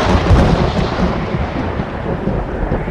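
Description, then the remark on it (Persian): A heavy thunderstorm rumbles steadily, with deep, rolling thunder over a dense wash of rain noise, loud and continuous throughout with no voices. “دوباره هوا طوفانی شد.”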